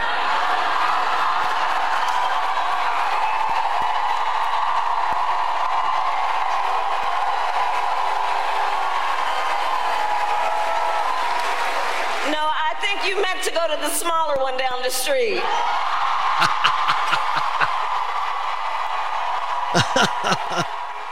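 rally crowd cheering wildly

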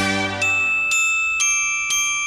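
bells being played

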